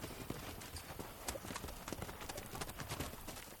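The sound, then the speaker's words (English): Horse hooves clip-clop steadily over a hard surface, a brisk run of sharp knocks with a faint background hiss and no talking. “Besides their swords and shields, the heroes had something else that was among the main characters in the stories. I mean, a horse.”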